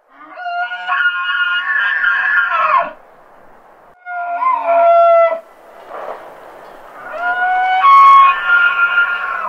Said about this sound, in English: The bull elk bugles to set up his territory and call in cows.